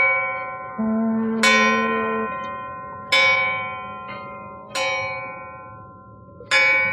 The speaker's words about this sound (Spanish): Lejos de ahí, en el muelle 18, el viejo reloj de la Torre de Faros deja escapar 12 campanadas.